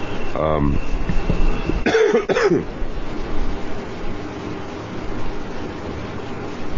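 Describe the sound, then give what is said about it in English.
A short burst of coughing and throat clearing from a person with a cold, fairly loud, with a couple of harsh hacks around the middle, over a steady background rumble. “I was coughing.”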